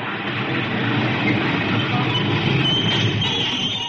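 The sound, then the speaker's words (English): An Avenue B line streetcar rolls steadily along its rails, a continuous low rumble with a broad rattling roar and a faint high metallic whine rising partway through, no voices present. “Do not talk to the motorman while the car is in motion.”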